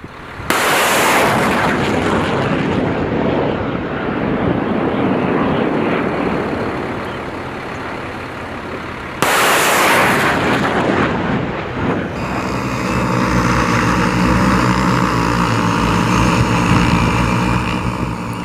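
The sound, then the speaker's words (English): Two loud, booming cannon blasts from military war drills in the Hawaiian islands roll out, each followed by a long rumbling decay, then a steady, droning aircraft engine with a tonal hum takes over. No one speaks. “Cannons and missiles and drones, those are the sounds of war drills happening here in the islands.”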